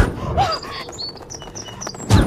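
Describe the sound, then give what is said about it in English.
A sparrow chirps in a quick run of short, high tweets, clear, with a soft rustle underneath and a dull thump right at the end. “Oh, fucking sparrow, the lamest of all birds.”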